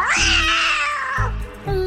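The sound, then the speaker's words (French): A black cat named Belzémioute lets out one loud, long, drawn-out meow that wavers and slowly falls in pitch, with a low rumbling background underneath and no talking. “Je vais placer mon chat noir pour vous surveiller.”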